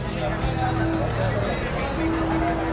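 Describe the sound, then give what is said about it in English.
Steady crowd hubbub fills a narrowing street lined with old brick Spanish colonial-style buildings in Mexico City's Centro Histórico, a dense wash of overlapping voices with no single speaker standing out, joined by a few sustained low tones that hum underneath for a second or so. “Old brick Spanish colonial-style buildings with skinny porches lean in on you as you move through the crowd.”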